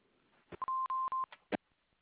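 A steady, mid-pitched electronic beep of an answering machine holds for over half a second, broken up by sharp clicks and short bursts of line noise, with no one speaking.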